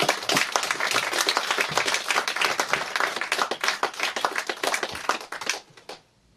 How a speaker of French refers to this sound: Ils vont démarrer donc le deuxième morceau. Ils se mettent en place et on va les applaudir pour les encourager.